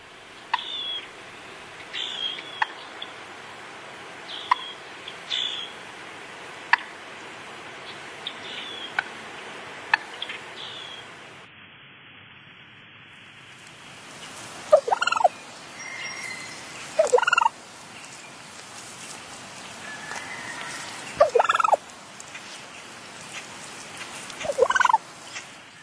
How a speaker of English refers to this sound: Let's take a listen to what the turkeys might be sounding like this time of year.